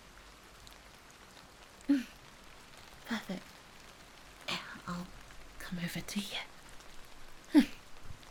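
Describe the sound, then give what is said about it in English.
Soft, steady patter of light rain beginning to fall on a surface, a faint hiss across the whole stretch, with a voice speaking quietly over it now and then. “Well, should we get going before it starts to really kick up and rain?”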